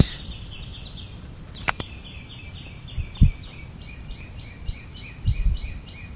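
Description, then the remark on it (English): A bird sings repeated high chirping phrases steadily in the background over a low rumbling ambience, with a couple of sharp clicks and brief low thumps along the way. “It may be the bird you hear in the background.”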